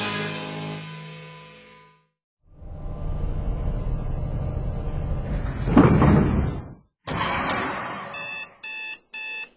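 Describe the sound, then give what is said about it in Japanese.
Electronic tones sound as fingerprint and retina authentication clear, then the fourth security door rumbles open with a long mechanical whoosh and a heavy thud, followed by a run of rapid, loud electronic beeps in short bursts. “指紋認証クリア。網膜認証クリア。第4ドアオープン。”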